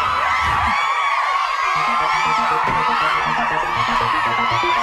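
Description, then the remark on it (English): A loud, dense crowd cheers and whoops without letup, many overlapping voices shouting and hollering together at a steady high level for about five seconds. “Should we have the sexy scream? Sexy crowd cheer.”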